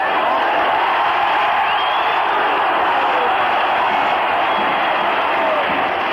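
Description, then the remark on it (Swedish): A dense, roaring stadium crowd of football fans, with Druze supporters at a match where Shia and Druze sides meet, cheers steadily throughout, a loud continuous wash of many voices with occasional whoops rising above the din. “Men det är druserna som håller stämningen uppe.”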